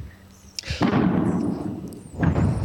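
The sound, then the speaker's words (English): Two loud, booming explosions like fireworks in the background, the first around the midpoint and a second one near the end, each with a sharp onset and a rumbling, sustained tail. “I'm hearing some very loud noises in the background. There are those explosions.”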